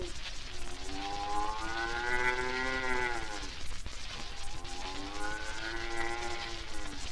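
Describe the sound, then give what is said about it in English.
A man imitates cows in a farm meadow mooing twice, two long, drawn-out harmonic moos that rise and fall, fairly loud, with a faint low hum underneath. “The cows in the meadow, they go.”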